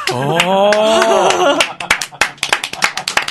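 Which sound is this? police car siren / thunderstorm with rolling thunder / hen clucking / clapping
clapping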